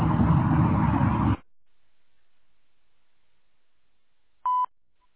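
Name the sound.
answering machine beep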